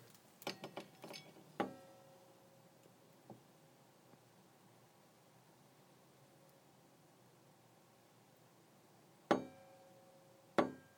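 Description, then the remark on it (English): Wind chimes tinkle in a cold wind at about 5 a.m., heard through an open window: a quick cluster of bright metallic strikes with ringing tones, a lone soft chime, a long hush of faint hiss, then two more clear rings. “That's not me moving the wind chimes, by the way.”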